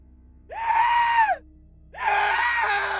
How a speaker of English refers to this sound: The old man screamed at the gory sight.